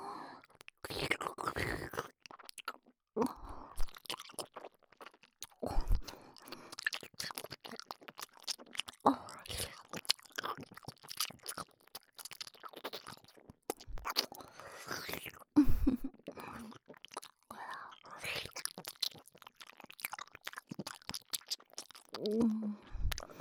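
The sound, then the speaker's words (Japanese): Noisy, wet chewing right at the ear: dense, irregular smacking and squelching mouth clicks, fairly loud, with soft breathy whisper-like sounds and brief pauses between bursts. “これから君の耳元でくちゃくちゃ食べる音聞かせてあげる。”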